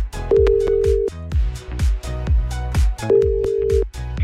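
An outgoing phone call's ringback tone, placed during a listener-request show on Hungarian radio station Petőfi Rádió, sounds twice, each steady buzz lasting under a second, heard over a loud, punchy music bed with a steady drum beat and no talking.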